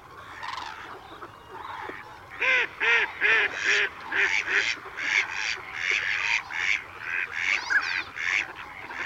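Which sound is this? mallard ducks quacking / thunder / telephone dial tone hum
mallard ducks quacking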